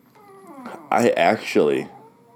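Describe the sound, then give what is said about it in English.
A dog whimpers in thin, wavering whines that start soft, then break into three louder, strained cries with sliding pitch. “I don't know what the fuck this dog does.”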